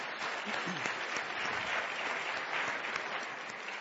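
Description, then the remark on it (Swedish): An audience claps steadily for a few seconds, a dense wash of many hands at an even, moderate loudness with no voices standing out. “Jag tycker vi tackar med ytterligare en applåd för din insats.”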